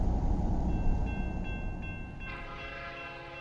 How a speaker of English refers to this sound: I'd stopped the car at a sleepy little junction just across the Oklahoma border to let a train pass when he appeared across the tracks.